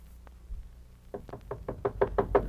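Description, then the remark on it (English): A rapid series of about eight sharp knocks on a door, evenly spaced and growing slightly louder, with no one speaking. “Tony, open the door.”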